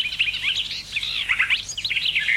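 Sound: garden warbler singing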